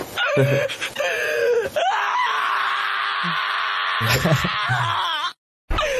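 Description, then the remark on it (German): A dubbed human voice imitates a large dog howling and screaming while its nails are clipped, with loud groaning wails and whimpers building into a long, drawn-out shriek, then short cries before cutting off abruptly. “So, falls ihr es nicht gesehen habt, da wird ein kleinen, wunderschönen, großen Hund die Fußnägelchen geschnitten. Und der schreit. Schön synchronisiert.”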